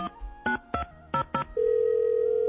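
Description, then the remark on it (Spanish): Five quick keypad beeps of a mobile phone being dialed, followed by a steady, unbroken electronic tone that holds until the end. No voices. “Por suerte, el marciano llevaba su teléfono móvil con él y llamó a la chica que estaba viviendo con él.”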